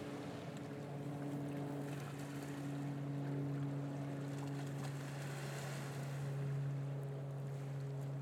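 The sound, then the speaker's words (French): Loud, fast-breaking waves rush and churn continuously beside a steady low engine drone, like water surging past a moving boat, with no voices. “Vagues rapides, gros bruit de vagues rapides.”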